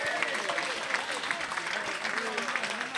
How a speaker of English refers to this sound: Give him a nice round of applause for that.